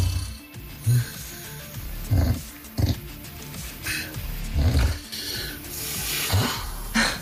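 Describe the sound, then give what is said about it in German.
A man from Schwedt, Brandenburg, Germany, snores loudly and raggedly, each breath a harsh, rattling rasp with throaty snorts, repeating at an uneven pace, with no talking. “die übrigens im Urlaub immer getrennte Zimmer buchen, weil sie seinen Schnarchen einfach nicht aushält.”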